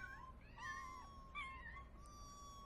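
A cat meows several times in quick succession, drawn-out, wavering high-pitched cries over a low background rumble, with no one speaking.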